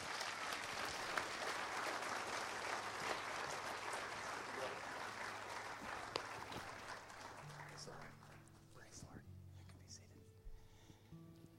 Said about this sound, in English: Let's give him a round of applause, okay?